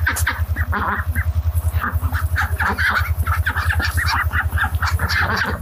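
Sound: hen clucking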